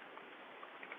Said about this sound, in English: So that's the sound of me washing the brush in between of changing colors.